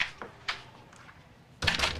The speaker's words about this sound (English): Close the door, please.